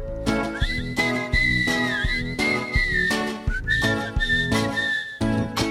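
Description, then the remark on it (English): A bright, clear whistled melody glides and wavers over a bouncy musical backing with a steady beat, loud throughout, with no voices. “A walrus whistling, huh?”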